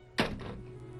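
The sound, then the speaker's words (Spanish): A telephone receiver is hung up with one sharp plastic clack that quickly dies away, leaving a low steady hum. No voices are heard. “Y cuelga el teléfono con el alma desgarrada.”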